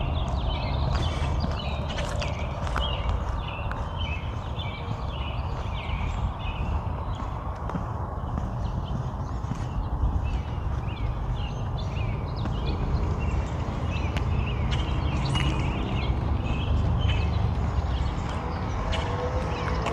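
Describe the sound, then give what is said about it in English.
Many birds chirp and sing continuously outdoors on a warm morning under high, thin cloud, their overlapping calls filling the background, over a steady low rumble that runs through the whole stretch. “Lots of birds.”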